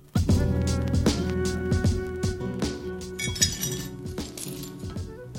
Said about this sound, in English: Somewhere between the dishwasher and the cupboard shelf, a wine glass breaks. Maybe I swing wide and tap the counter edge. Maybe it's slippery and I just drop it. By the time I sweep up the pieces, I don't even remember.